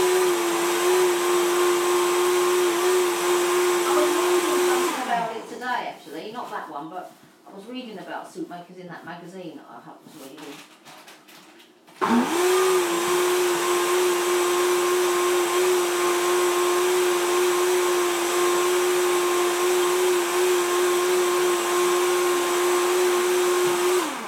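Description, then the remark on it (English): A soup maker's motor whirs loudly and steadily in a high-pitched drone, drops away for several seconds while a voice is heard, then kicks back in at full strength. “what's that thing now? Soup maker.”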